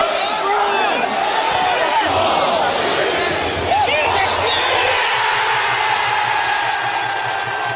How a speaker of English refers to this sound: I stumbled across, I think a lot of people stumbled across, a fan celebration, a clip of that goal as viewed from the Fratton end, and we actually managed to find it and get it on our show. Here's how it sounded.